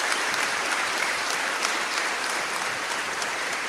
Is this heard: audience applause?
yes